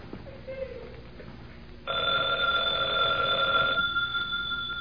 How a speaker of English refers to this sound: Fred, telephone's ringing.